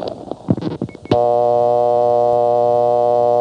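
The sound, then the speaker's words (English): A few clicks and rattles of a handset being picked up, then the original dial tone of the Morrisville, Vermont telephone exchange, as of summer 1975, comes in: a steady, buzzy, harmonic-rich hum that holds loud and unbroken to the end. “Now, as of 1975 summer, it still has its original dial tone.”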